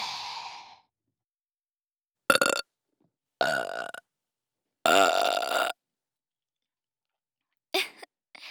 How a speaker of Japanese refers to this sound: 三方向から生ゲップでした。